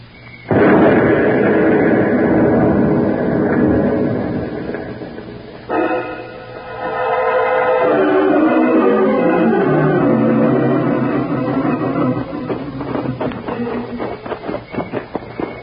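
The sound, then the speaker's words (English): A truck carrying explosives explodes on a road with a sudden loud blast and a long rumbling roar, then a second burst, fading into crackling, popping debris sounds with no voices. “Shouldn't go near that exploded truck, Mr.”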